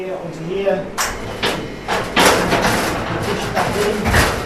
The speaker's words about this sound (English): the banging you can hear is the door to a holding chamber in the morgue at their local hospital.